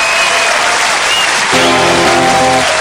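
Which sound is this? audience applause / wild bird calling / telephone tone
audience applause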